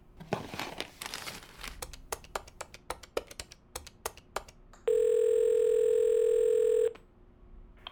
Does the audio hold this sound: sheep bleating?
no